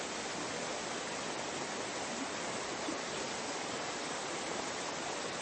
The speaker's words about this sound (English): Feeling the energy, hearing the water